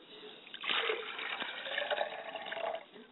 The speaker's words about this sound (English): and if you'll just stand to your feet while I pour a libation, I appreciate that. I pour libations and set a glass of water for my father's spirit, and I say.